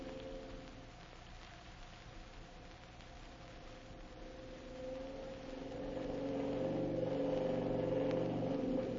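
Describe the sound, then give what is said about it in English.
A gas motorboat engine on a river drones steadily over a hiss of rushing water, its low hum swelling louder about halfway through as it runs wide open at full throttle. No voices. “Can't you get any more speed? Oh, devil a chance. I have it wide open.”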